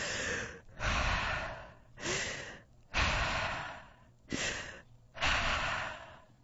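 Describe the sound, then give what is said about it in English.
A person pretending to be a monster imitates heavy, menacing panting as a mouth breather: loud, breathy in-and-out gasps in a steady, slow rhythm, about six rasping breaths with no talking. “Herbert's panting was kind of scary, but it wasn't enough for me”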